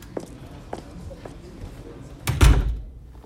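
door being closed

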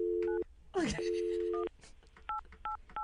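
telephone keypad dialing tones

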